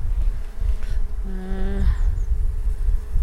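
Honeybees buzzing at an open hive: a steady low hum throughout, with one bee's louder, higher buzz swelling up for about half a second midway.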